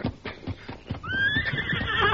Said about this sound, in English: Keep the horses quiet. Easy there, easy.